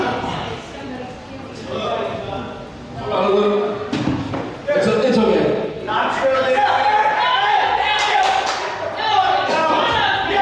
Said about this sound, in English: the guy clapping now is like a bouncer or like the wait staff or something. I don't know, a bartender. He's like, get off the stage. You're done. Your act is over with.